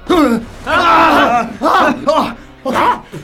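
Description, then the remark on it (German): Loud, strained human screams in the middle of the night, coming in several drawn-out bursts with short breaks between them, the voice rising and wavering in pitch. “Mitten in der Nacht weckte den ersten Detektiv ein lauter Schrei.”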